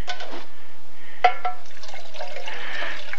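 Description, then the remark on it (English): Water pours steadily into a cup for a few seconds, a drink of water being served, with a light clink of glass partway through and a gurgling, rising fill sound toward the end. “I'll get you another drink of water on that one.”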